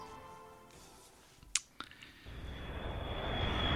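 A jet engine spools up after two sharp clicks: a broad, rushing roar with a high steady whine that swells steadily louder to the end. Nobody speaks.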